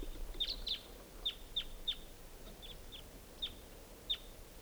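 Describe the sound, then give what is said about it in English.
Wild crossbill calls: a series of about nine short, sharp, high chip notes at uneven intervals, fairly faint over a low steady background hiss, with no voices. “I hear pair birds. A lot of crossbills around here.”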